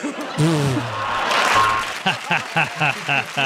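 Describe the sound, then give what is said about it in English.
A short burst of audience applause swells for under two seconds, mixed with a voice, then fades as people talk in quick, rhythmic bursts. “You got applause.”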